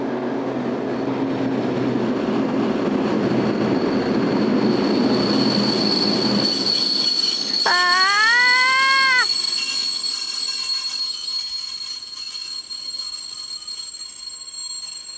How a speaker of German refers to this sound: Die Schranken des Bahnhofs schlossen sich für einen heranfahrenden Zug.